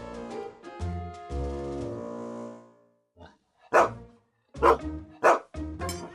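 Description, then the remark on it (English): A dog lets out drawn-out, whining howls, then breaks into four loud, sharp barks spaced unevenly over a few seconds, at around 8 o'clock, with no talking. “Same time you started barking yesterday.”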